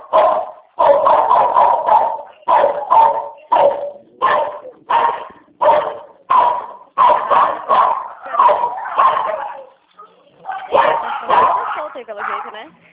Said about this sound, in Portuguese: A cachorrada tá solta aí pelo jeito, né? Ah, tem um aqui que late, mas não pode passar uma mosca que ele late. Passou uma mosca na frente dele, ele enlouquece.